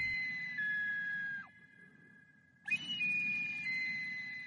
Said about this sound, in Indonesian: Saya memasukkan banyak suara binatang itu. Jadi ketika saya keluar dan memainkan alat musik saya, suara suling itu menarik semua jenis binatang.